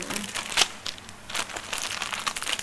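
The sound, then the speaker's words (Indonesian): Drawing paper crinkles and rustles continuously, with irregular crackly bursts and a sharper crunch near the start, steady handling without any voices. “Ini kurang gede kayaknya, Cah. Kertas kita. Cukup ya?”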